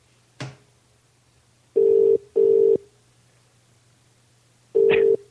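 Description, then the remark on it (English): A click on the line, then a telephone ringing tone from calling a public phone box in Burgess Hill that has its door missing: a steady double burst, a pause, and the start of another ring, clear and fairly loud with no voices. “There's a door missing on the phone box in Burgess Hill. That's what we're calling.”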